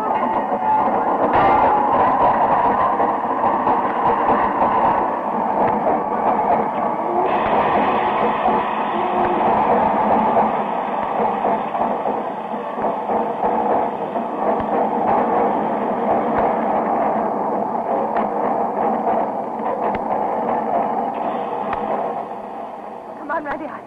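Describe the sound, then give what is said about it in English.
A train rumbles steadily into a station, a continuous loud mix of rolling wheels and machinery noise, with voices murmuring amid the clamor. “Are you expecting him on this train?”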